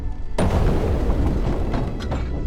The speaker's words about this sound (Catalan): Immediatament la porta cau i entro amb la línia d'aigua.